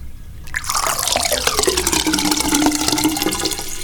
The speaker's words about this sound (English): And that pouring water sound means that I now have to get up and pour some water for my cat, because we got a thirsty kitty.